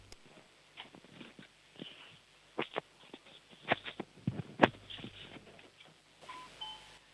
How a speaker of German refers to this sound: Die war leise, aber es war eine Türklingel zu hören.